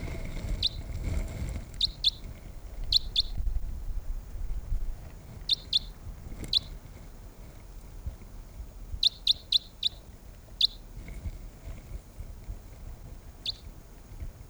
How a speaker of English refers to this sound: The wild birds are still calling softly nearby.